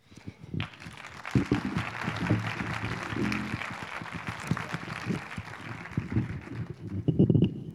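Steady audience applause of many hands clapping fills the whole stretch, a dense crackling patter that swells briefly near the end, with no one speaking over it.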